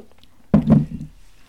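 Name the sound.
sipping coffee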